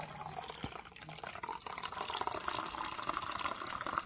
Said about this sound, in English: So I pour the coffee out of the thermos into my cup, and then I have hot coffee for a couple of hours in the morning.